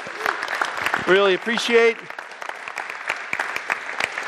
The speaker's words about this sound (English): Let's give another hand of applause to those guys. Weren't they great?